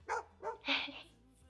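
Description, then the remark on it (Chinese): Three short, sharp barks from a pet dog told to bark, in quick succession and fairly loud, the last one higher and more yelping, followed by a faint trailing whine. “你看，都是我。乖，叫声听听。”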